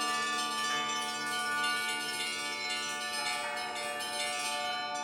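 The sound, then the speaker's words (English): A bell installation of 20 small bells on a grid of stands and 13 large bells placed randomly among them plays a composition, many overlapping metallic tones sustaining into a bright, shimmering wash that stays loud and steady throughout, with no voices. “There's apparently more than 100 compositions for these bells, and I also understand there's a website that you can go onto and compose your own if you're that way inclined, and put it in to say, I'd like my composition to be played.”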